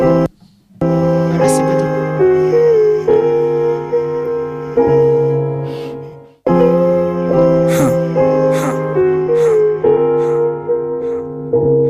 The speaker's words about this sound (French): On va s'écouter un petit peu de musique ? En effet, on va s'écouter un petit peu de musique.